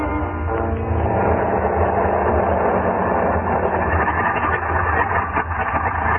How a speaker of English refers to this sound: Pilot Sipper climbed in, waved goodbye, revved up his motor, and the little plane went plowing off through the snow.